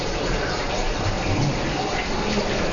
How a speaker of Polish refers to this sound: Stajemy przed szumiącą wodą.